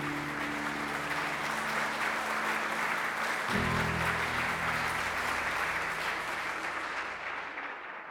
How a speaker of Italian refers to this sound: Grazie Laura, e questa volta l'applauso è per te.